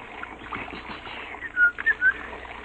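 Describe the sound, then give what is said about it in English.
A shower runs with a steady hiss of spraying water as a man enters it, and near the end three short, bright whistled notes rise over it in quick succession. “In a state of confusion, with an emotional distress quotient of at least 0.742, he stripped off his uniform and entered the shower.”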